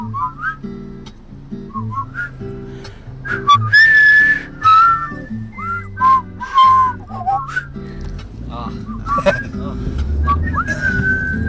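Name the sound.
person attempting to whistle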